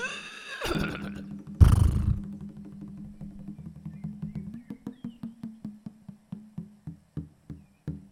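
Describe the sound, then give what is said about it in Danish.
A horse gives a loud, drawn-out whinny, followed by a burst of snorting, then a steady rhythm of clopping hoofbeats that continues to the end, during a horse ride. “Sikke en ridetur. Godt nok en flot hest.”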